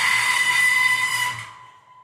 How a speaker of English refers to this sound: Garage door is closing.